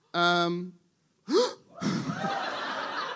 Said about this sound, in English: Someone gasped as if punched in the tummy.